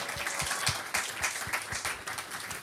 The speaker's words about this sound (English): A round of applause